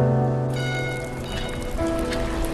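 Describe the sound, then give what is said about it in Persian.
Steady cold early-summer rain falls on a surface in a continuous, even patter, with sustained soft musical tones humming underneath; no one speaks. “اما یه روز توی سرمای موندگار بارون اوایل تابستون”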